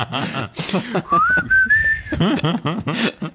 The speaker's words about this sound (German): Es ist objektiv ein cooles Lied, ja. aber ich finde dieses Flöten, immer wenn das im Radio kommt, wenn ich das höre, heftig, dann ja.